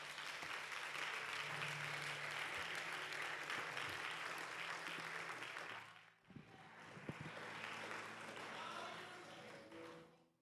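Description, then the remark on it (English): A crowd claps their hands to God in a dense, sustained wash of applause for about six seconds, dips briefly, then swells again with scattered voices mixed underneath before fading out. “Could you clap your hands to God?”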